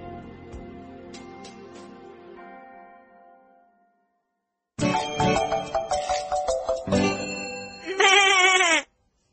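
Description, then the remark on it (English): A voice imitates a sheep, letting out loud, wavering bleats with a quivering, trembling end. Before them, a softer tonal sound fades out and is followed by a brief silence. “why do you sound like a sheep?”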